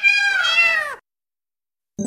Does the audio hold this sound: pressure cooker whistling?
no